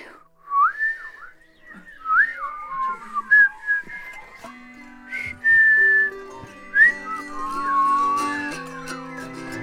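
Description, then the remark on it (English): Someone whistles an imitation of sleepy birds beginning to wake up: wavering, sliding chirps and trills at a high pitch, loose and irregular, joined later by sustained lower tones, with no talking. “So now we need sleepy bird sounds, please.”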